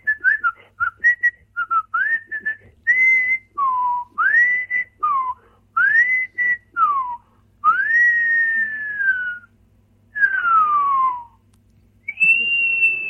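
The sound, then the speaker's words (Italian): Clear human whistling in a quick string of swooping notes that rise and fall, some long glides dropping like fireworks, with short pauses between phrases and no talking. “Comunque, dicevo appunto fischietti che...”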